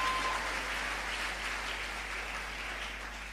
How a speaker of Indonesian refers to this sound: Saudaraku, tepuk tangan saudaraku.